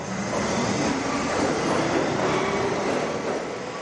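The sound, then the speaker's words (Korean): A New York City subway train rumbles steadily through an underground tunnel, a dense, continuous roar of wheels and rushing air with faint rhythmic clatter, loud throughout, with no voices. “사람들은 지하철을 타고 어두운 지하를 통과하지만 미술 작품들을 통해서 밝은 기운을 느낄 수 있으니까요.”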